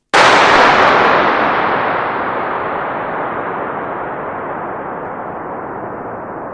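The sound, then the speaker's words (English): A single sharp starting pistol shot, fired inside a vast, cathedral-sized concrete arch structure to measure its acoustics, cracks out, then a long, rumbling echo rolls on and slowly fades over several seconds, almost like a passing plane. No voices are heard. “And, we fired a starting pistol in there, exactly the same one you just heard in the anechoic chamber, to measure the acoustic.”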